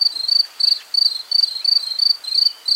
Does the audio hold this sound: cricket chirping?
yes